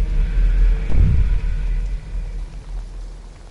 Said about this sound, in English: Just thunder, Nala. There are storms on this side at Chasm.